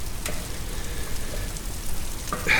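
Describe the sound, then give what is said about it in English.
A waterfall's steady rushing roar, a continuous wash of noise with deep rumble and faint hiss, swelling into a brighter splashing hiss near the end. No voices. “Is that water I hear? You expected to find a tree without water? I have no idea what I should expect. Wise. To expect anything is to be prepared. A waterfall?”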